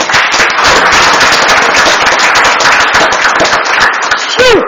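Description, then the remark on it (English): A crowd applauds steadily for several seconds, a dense, loud crackle of many hands clapping at once, with a rising whoop or whistle near the end, at a city council meeting after a measure passes unanimously. “Big round of applause.”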